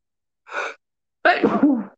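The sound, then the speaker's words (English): A single loud sneeze: a brief breathy intake followed by a sharp explosive burst that trails off, with no talking. “Bless you.”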